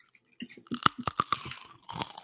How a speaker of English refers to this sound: Ooh. How's that sound? That sounded really good. It's like that was a solid crunch.